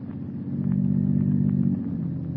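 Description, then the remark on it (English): A motor car engine purrs in a steady, low hum, swelling slightly after the start and holding even throughout, with no voices. “The unearthly silence is broken only by the purr of a motor car.”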